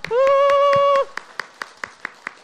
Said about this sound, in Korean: 박수.